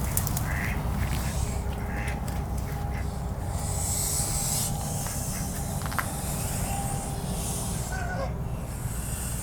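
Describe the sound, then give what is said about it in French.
Father geese guarding a gosling give loud, agitated honking calls in scattered bursts over a steady, noisy outdoor background, with a few faint protective hissing sounds mixed in and no one speaking. “Quand bébé oie est de sortie, du coup les papa oies sont autour et ils font beaucoup de bruit pour dire aux autres « vous approchez pas, c'est mon bébé ».”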